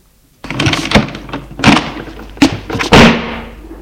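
A door is flung open in fury with a heavy thud, followed by several more loud knocks and bangs in an uneven burst over a few seconds, forceful, with no voices.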